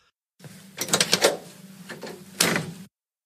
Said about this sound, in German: Ja, dann möchte ich noch auf einen Sound dich aufmerksam machen. Du bist ja jemand, von dem man sich erzählt, dass er früher ein Auto wieder zurückgegeben hat, weil ihm es nicht gefallen hat, wie es klingt, wenn er die Tür zumacht.